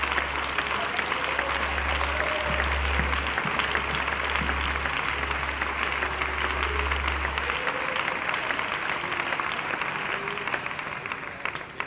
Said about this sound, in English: Amen, amen. Clap your hands as loud as you can unto the Lord if you love him.